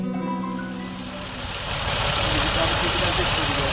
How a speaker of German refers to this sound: Ende September am Rande der Stadt Saarbrech. Eine Wiese und ein Feld sind voller Traktoren mit Pflügen. Hier findet die tschechische Meisterschaft im Leistungspflügen statt.